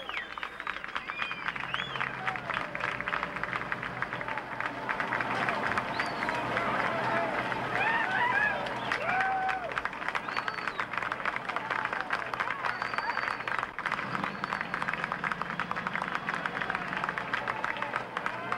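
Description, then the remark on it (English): A crowd in Midland, Texas, claps steadily as a rescued girl is brought up after a 58-hour rescue, a dense patter of many hands at an even loudness, with indistinct voices and occasional raised calls mixed into the noise. “There's clapping.”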